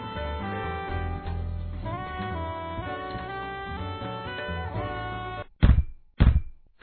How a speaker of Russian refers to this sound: стучится в дверь ко мне с толстой сумкой на ремне. Это он, это он! Долгожданный почтальон